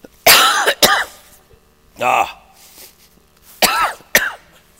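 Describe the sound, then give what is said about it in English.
A person coughs several times, loud, harsh bursts arriving in a quick pair, then a single cough, then another pair, with short quiet gaps between and no talking. “I'm getting ready to cough here.”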